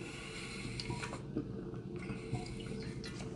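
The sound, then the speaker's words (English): Water running steadily from a tap for drinking, in Colorado, a continuous splashing stream with small bubbly pops, fairly quiet, with no voices. “Always drink your water, kids.”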